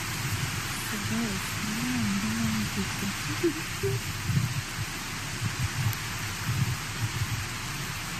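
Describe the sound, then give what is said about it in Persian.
Steady rain hisses across the whole scene in Mashhad, a constant wash of falling water, with voices of protesters murmuring and chanting faintly in the background as they carry on in the rain. “اینجا مشهد هست، شویسی بچه در بارون، ببینید بچه ها چه پیگیرن، در بارون هم بنویسید ادامه میدهند”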